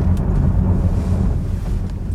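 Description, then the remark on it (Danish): A high-powered car accelerating on a stretch of gravel road with its power going to the rear wheels: a loud, steady, deep engine rumble with a rough, gritty wash layered over it, sustained without a break and with no talking. “Og noget af det, der var interessant for mig at prøve på lige præcis det her stykke grusvej, det var, hvordan fungerer den her bil, når jeg nu lægger den meget store effekt ud på baghjulene. Nu skal I høre, hvordan det lyder.”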